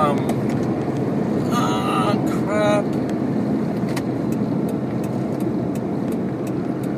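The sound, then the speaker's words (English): Constant highway road and engine roar, broken by a brief grinding, squealing scrape of a vehicle sideswiping another, followed by a few faint knocks as driving noise continues. “He hit my car doing 70 kilometres an hour. It was just door to door.”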